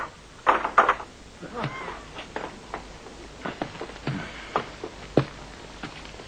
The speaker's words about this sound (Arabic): لا حيلة لنا، لابد أن نفتح له الباب، إنه إنسان شرير وسيفعل ما يقول دون ريب. أجل هو كذلك، افتح له.